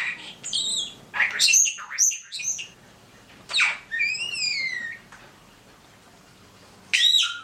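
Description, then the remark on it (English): A pet starling named Carmen whistles, squeaks and chatters in several bursts, with rising and falling electronic-sounding notes and speech-like mimicked phrases, including her name, "Hi Carmen", separated by short pauses. “Let's listen to a little of Carmen vocalizing.”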